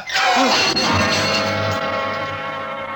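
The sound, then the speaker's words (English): A loud crash of a work light brought down hard on a man's head on a stage, with a sharp impact followed by clattering, ringing debris that sustains and slowly fades over a few seconds. “And then I yanked at the work light, lifted it high, and with all my strength brought it crashing down on his head.”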